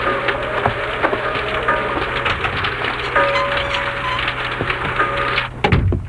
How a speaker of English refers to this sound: Here comes the rain. And you'll get soaked through.